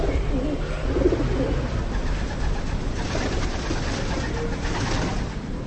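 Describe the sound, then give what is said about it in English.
Pigeons roosting on the buttresses of St. Bartholomew's Cathedral near the main square in Kolín coo softly in low, throaty murmurs over a steady wash of outdoor background noise, the calls repeating and overlapping with no voices present. “Pigeons roost peacefully on the buttresses of St. Bartholomew's Cathedral, near Kolín's pretty main square.”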